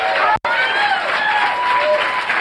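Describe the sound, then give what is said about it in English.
An audience applauds steadily and loudly for a comedian from Sonoma County, a finalist of the Great Northern California Comedy Competition. A dense wash of clapping with cheering voices and a few whoops rising over it, after a brief dropout near the start. “Let's have a nice round of applause from Sonoma County,”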